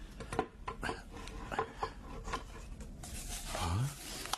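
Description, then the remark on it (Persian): A small wooden box lid scrapes and creaks open, followed by three papers inside rustling and shuffling in quick, irregular bursts of dry rubbing. “حال می توانی در جعبه را بکشایی؟”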